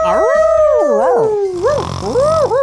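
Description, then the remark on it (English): A person does a loud imitation of a confused dog howl, one long wavering cry that slides down in pitch, then rises and dips in uncertain, quavering bends. “He was doing the confused dog. The old confused dog.”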